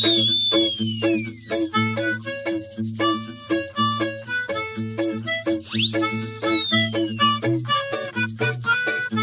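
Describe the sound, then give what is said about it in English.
A bouncy WYSO radio station jingle with a high toy whistle that swoops downward at the start and again midway, riding loudly over plucked, rhythmic backing. “I love the whistle.”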